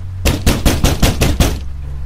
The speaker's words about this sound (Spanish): A las 9, tocaron la puerta.